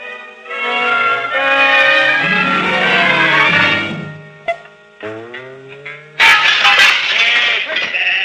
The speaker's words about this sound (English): Wait a minute, and we'll set the flock of sheep free. No, man, there's about 300-400 of them. The more the merrier.